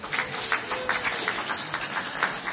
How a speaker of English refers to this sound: Before you clap too much, I will be honest and say that about halfway through the night, I put an earplug in.